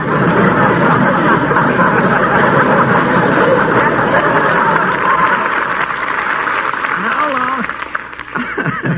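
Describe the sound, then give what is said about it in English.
Loud, sustained studio audience applause fills the whole stretch, a dense wash of clapping mixed with crowd laughter and murmuring that thins out slightly toward the end. “You see, even an aperture in a river gets applause on some of the shows, Captain.”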